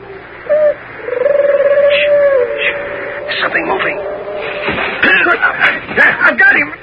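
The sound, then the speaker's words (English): Owl-like hooting calls made by Minotauri as signals, not by owls: a brief hoot, then a long, wavering drawn-out one, followed by scuffling and rustling noises. “Those aren't owls. It's Minotauri talk.”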